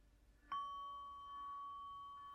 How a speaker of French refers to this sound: Et au prochain son de cloche, nous allons nous lever pour nous saluer, merveilleusement accompagnés par le carillon.